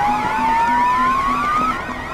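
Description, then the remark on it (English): A loud electronic proximity alarm set up in a phone app blares on its own, a warbling siren-like tone over a steady train of rapid low pulses, with a thin whistle slowly rising in pitch underneath. “Well, those are the proximity alarms I set up in my app.”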